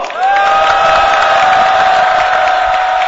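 A crowd of fellow workers bursts into loud applause mixed with cheering and shouts at the opening of a rally against irregular employment, a steady dense roar of clapping and voices that begins abruptly and holds at full strength throughout.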